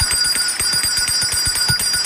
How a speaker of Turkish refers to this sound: Gelsin zil sesimiz.